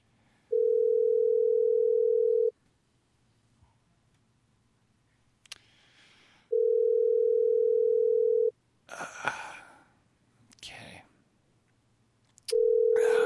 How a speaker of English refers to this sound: We're going to make another phone call.